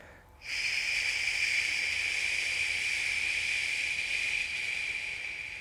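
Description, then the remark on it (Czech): A single long, steady shushing 'sh' exhale, done in a breathing exercise after a belly inhale, starts abruptly and holds evenly for about five seconds, a bright airy hiss that eases slightly toward the end, with no talking. “Šumte. Š.”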